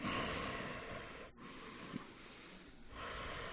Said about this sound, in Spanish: es que hagan la respiración que se llama Ujjayi, que es respiración victoriosa, que es respiración sonora, cerrando un poco la glotis, entonces se escucha tu respiración. ¿Cómo sería?